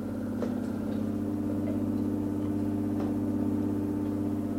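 The pump motors of an artificial heart-lung machine running during open-heart surgery hum in a steady, even drone, a low whirring tone with faint rhythmic ticks running through it, with no voices.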